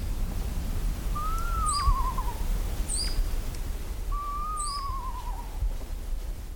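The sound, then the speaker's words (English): An adult owl sings two wavering, descending trills, each lasting over a second. Between them, a young owl gives three short, high begging calls. A steady background hiss runs throughout. “Here's an adult singing while a youngin's call begs attention.”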